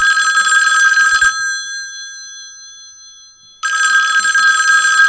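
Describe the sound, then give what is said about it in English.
An old-style telephone bell rings loudly in two bursts, the first ring fading into a lingering metallic hum before the second begins, with no voices. “Do the phone call one more time.”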